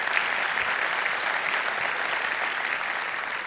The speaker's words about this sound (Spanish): Un aplauso a Dios, es la palabra de Dios.